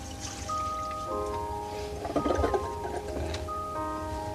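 toilet flushing

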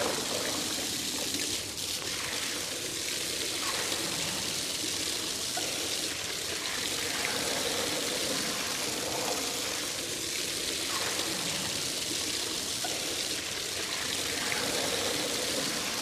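water running

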